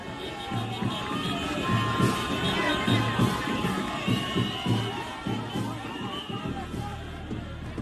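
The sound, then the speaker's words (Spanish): A large crowd in Sahagún, Córdoba, welcoming former senator Bernardo "el Ñoño" Elías as a hero, cheers and shouts continuously, with high excited voices and whistles riding over a dense roar, and a steady rhythmic pounding, like drums, underneath. “Sahagún, en Córdoba, recibió a uno de sus dos senadores más votados en la historia, Bernardo el Ñoño Elías, como un héroe.”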